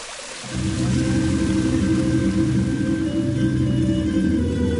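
The Atinička river rushes steadily past the Ćirković watermill, a dense, loud, continuous flow with a deep rumbling undertone that swells in after a brief quieter moment and holds without a break. The river rises at the Atinica spring at the foot of Mount Jelica.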